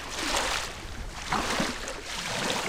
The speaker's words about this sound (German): Für Wanderführerin Christine Salis ist das Wellenrauschen am Silser See ein gutes Zeichen. Denn dann weht der Maloja-Wind über den See, bringt die Wellen zum Schäumen und bläst den Kopf frei.